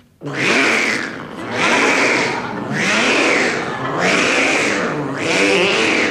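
A cat yowls loudly and repeatedly inside a spinning prize wheel, its wailing cries rising and falling in steady swells about once a second over a rough, whirring rumble, with no talking.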